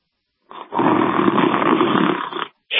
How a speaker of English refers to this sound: Is that you hitting a bong? Oh man, you woke me up. Oh. I see that you're snoring.